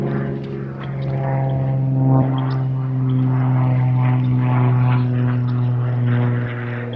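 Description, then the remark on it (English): A propeller aeroplane drones steadily overhead, its low, buzzing engine hum holding at a fairly loud, constant level throughout with no voices present. “An aeroplane.”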